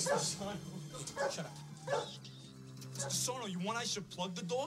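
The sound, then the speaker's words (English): A dog gives several sharp, separate barks, then breaks into high, wavering whimpers and whines over a steady low hum. “you want I should plug the dog?”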